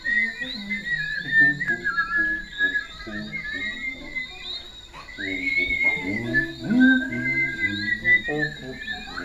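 A cheerful tune is whistled steadily with bright, wavering melodic notes, set against a busy, full background of other tonal sounds that continues throughout.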